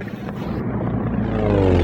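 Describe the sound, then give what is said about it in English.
T-28 propeller planes, call sign Tango One, roar past a helicopter, engine drone loud and steady with a rising harmonic whine toward the end, no voices. “That was us. We're the T-28s who just passed you.”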